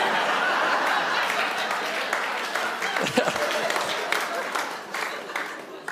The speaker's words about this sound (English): The only two rounds of applause I've gotten after a sermon are this one and the one on sex last year. Tells me a lot about you people.